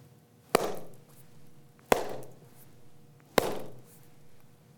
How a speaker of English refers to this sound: And our meditation sessions start usually with three slaps of a stick called a chukpi, but I don't have one with me, so I'll just clap my hands, and they end the same way.